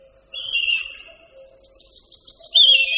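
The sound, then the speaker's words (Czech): A red kite gives a melodic, high whistling call in two wavering phrases, the second louder and sharper, with a fainter lower tone running beneath and no voices. “Melodické pískání luňáka červeného je velice nezvyklé.”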